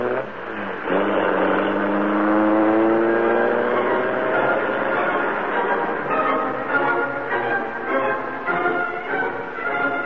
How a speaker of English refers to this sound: The door slammed, the motor roared. As the great car leaped forward, a section of the wall slid up on oiled hinges, and the Black Beauty rushed into the darkness and the night.